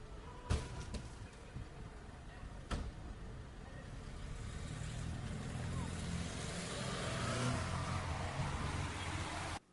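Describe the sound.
A car engine revs and surges as the vehicle pulls away, its rumble building steadily louder, after two sharp cracks early on, with indistinct voices in the background.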